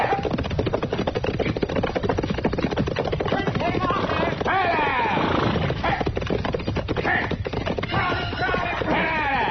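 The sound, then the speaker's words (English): A runaway horse gallops hard up Front Street with rapid, loud hoofbeats pounding steadily throughout, and what sounds like a whinny rising partway through amid some background voices. “Well, somebody's sure riding up Front Street awful fast, ain't they? Yeah. That's a runaway horse, Chester.”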